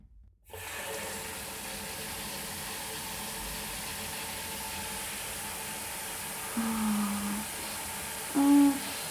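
shower water running

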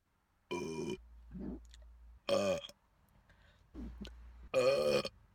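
burping

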